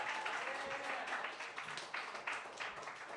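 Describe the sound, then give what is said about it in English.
A crowd applauds steadily, a dense wash of many hands clapping at once, sustained and fairly loud throughout without letting up, for a comedian leaving the stage after his set. “Give him a round of applause, everybody.”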